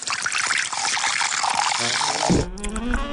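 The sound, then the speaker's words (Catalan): Ginesart craft beer from Ginestar pours in a steady, hissing gush for about two seconds, then the stream shifts to a lower, gurgling fill with bubbly fizz as the glass tops up. No one speaks. “El plaer d'una cervesa.”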